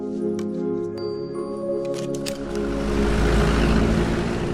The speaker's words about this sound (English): A blue and white van rolls down a highway and into a city. It shares the crowded streets with cars, buses, mopeds, and three-wheeled motorized taxis.